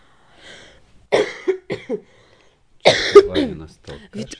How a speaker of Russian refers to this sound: … меня заразил просто, он, не смыкая глаз, днем и ночью кашляет